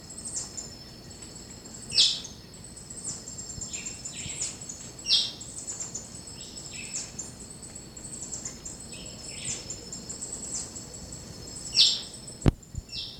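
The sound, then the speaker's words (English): A white-chinned thrush, also called hopping dick, gives three harsh, abrupt chirps from a dense vine-covered thicket in Charlie Bottom, spaced several seconds apart, over a steady high-pitched drone of insects and crickets, with a sharp click near the end. “And that's the hopping dick, white chin thrush. The harsh chirp.”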